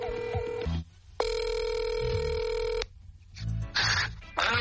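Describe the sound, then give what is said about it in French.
A broadcast telephone call to a correspondent in Belgium rings out in two long electronic ring bursts with a pause between, followed by brief clicks and line noise as it connects; no one speaks. “qu'on va rejoindre au téléphone en ce moment.”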